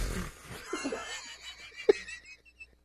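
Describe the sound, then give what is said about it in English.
A voice imitates the faint, wheezy fart of an old man: a soft, breathy hiss drawn out over a few seconds, with a short pop near the end, quiet, with no words. “He's so old, he's oblivious that he's farting.”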